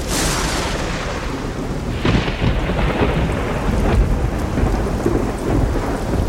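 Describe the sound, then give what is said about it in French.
A thunderstorm with steady, heavy rain hissing throughout, while deep rolls of thunder rumble and swell in loud bursts. No voices. “Ces immenses régions au-dessus de l'océan Pacifique sont très souvent balayées par de violentes tempêtes et des cyclones.”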